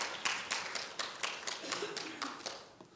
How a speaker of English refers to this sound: I heard you parents on the panel last week did a fantastic job. Clap. It's good.